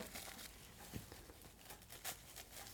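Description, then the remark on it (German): A tea bag is torn open to use the loose tea leaves, a quick burst of crinkling and ripping with a few sharp rustles, fairly quiet and with no voices. “Ich reiß den Beutel kurz auf.”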